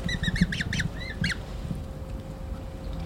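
Young Eurasian coot chicks at a coot nest in Amsterdam give a run of high, thin peeping calls, about seven quick harmonic notes in the first second and a half, over a steady low rumble of background noise.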